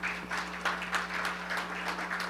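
Audience applause: a steady wash of many hands clapping, dense and fairly loud, with a faint low hum running underneath throughout.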